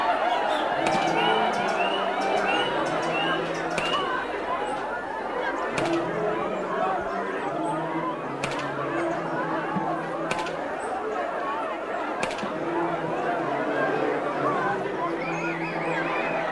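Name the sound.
crowd murmuring and chattering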